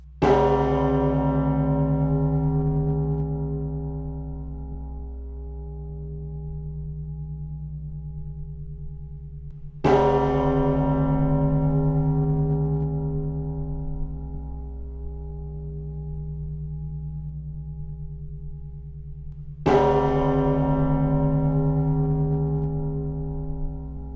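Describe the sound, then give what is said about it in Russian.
The large bell of the Holy Danilov Monastery in Moscow tolls three times at slow, even intervals, each strike blooming with rich overtones and a long humming resonance that sustains until the next blow. “Для того, чтобы начать, я предлагаю вам послушать звук колокола, большого колокола Свято-Данилова монастыря города Москвы.”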